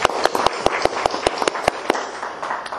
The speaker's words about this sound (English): Would you give our new officers of the Cannon County Board of Education an applause?